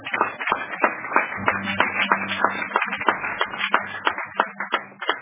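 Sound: audience applauding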